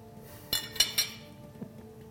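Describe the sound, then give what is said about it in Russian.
Three quick metallic clinks of cutlery being laid in a plate, fairly sharp with a bright ring, followed by a softer tap, with no talking. “А вот так считается, это у нас приборы лежат как весла.”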